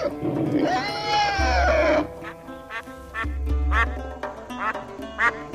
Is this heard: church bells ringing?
no